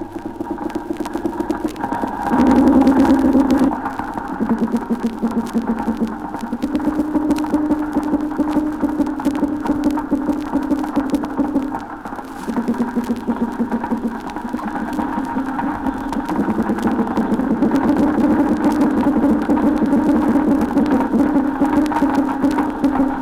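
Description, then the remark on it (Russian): Underwater recording in a calm sea of Alpheus snapping shrimp crackling continuously, dense fine clicks across the whole clip, over low, steady drumming and humming made by fish with their swim bladders during spawning, rising and swelling in long stretches. “На фоне непрерывных потрескиваний, создаваемых щелкающими рачками алфеусами, мы слышим барабанные звуки, издаваемые рыбами с помощью плавательного пузыря в период нереста.”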